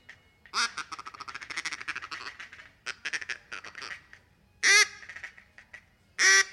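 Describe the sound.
A duck call runs through a fast, rhythmic feeding chatter of rapid clucks and ticks, used to bring ducks in, then two loud, sharp quacks ring out near the end. No one speaks.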